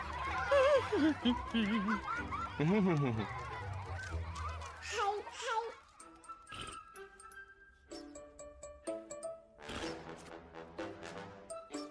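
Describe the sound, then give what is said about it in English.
Several birds honk loudly, their overlapping calls crowding the first few seconds before thinning into scattered, quieter sounds and occasional sharp noises. “You guys ever thought about bird control?”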